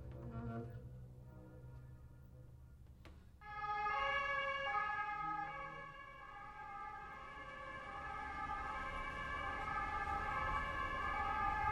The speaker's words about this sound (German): Ja, wir hören plötzlich eine Ambulanz sich langsam nähern. Die Sirenen hat vielleicht heute so ein bisschen erstaunlicherweise die Funktion von Nachtwächtern, weil das sind die einzigen lauten Geräusche, die einfach plötzlich auftauchen dürfen